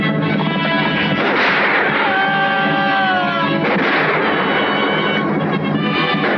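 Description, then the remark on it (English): Rifle shots crack repeatedly within a loud, dense battle din that never lets up, as Ringo and Curly fire from a speeding stagecoach at pursuing Apache warriors; a wavering, high-pitched cry rises briefly out of the clamor partway through. “Firing together, Ringo and Curly drop two more warriors.”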